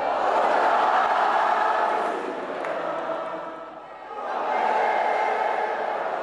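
A large crowd of spectators sings the Marseillaise together without accompaniment at the end of the day at the Porte d'Auteuil tennis tournament, after Herbert and Mahut won the mixed doubles final. It is a dense wash of many voices that swells loudly, dips and softens around the middle, then rises again to full strength.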